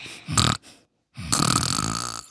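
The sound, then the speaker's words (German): A pupil fakes loud snoring during a lesson, giving a short rasping snort, a brief pause, then a longer drawn-out nasal snore. “der … macht wieder die Schnarchgeräusche”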